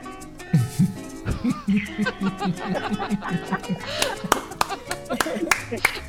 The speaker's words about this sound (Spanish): Más aplausos porque estuvo buenísimo. No, los aplausos están ahí.